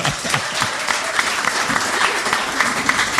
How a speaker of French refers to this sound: que je vous demande d'applaudir chaleureusement.